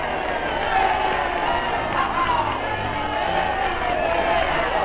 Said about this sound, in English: In New York's Times Square, and in every city, town, and hamlet, millions cheer VE Day.